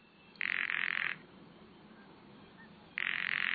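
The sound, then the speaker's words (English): A bird gives a dry, buzzy rattle call twice, each burst under a second long and fairly loud, separated by a few seconds of quiet outdoor background, the second cut off. “Rattles.”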